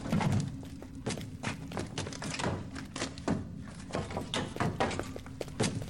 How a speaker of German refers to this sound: Da klopft jemand. Stimmt. Es kommt von dort.